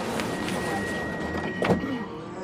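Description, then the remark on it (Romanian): Subway train doors closing, a steady warning tone sounding over constant rumbling carriage noise before a short burst as the doors slide shut. “Atenție! Se închid ușile.”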